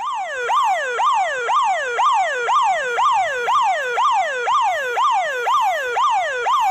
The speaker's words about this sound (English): How about a police car? How about a police siren?